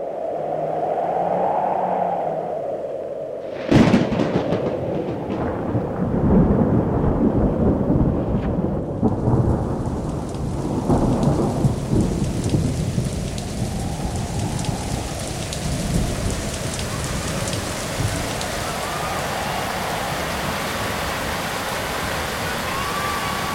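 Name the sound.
heavy rain with thunder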